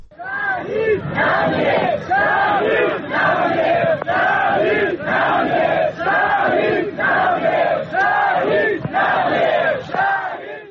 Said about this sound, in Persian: پیکر حمید مرادی، وکیل دادگستری و فعال محیط زیست که در جریان مهار آتش‌سوزی کوه آبیدر سنندج جان خود را از دست داد، به حضور گسترده مردم و در میان شعار شهید نمی‌میرد تشییع و به خاک سپرده شد.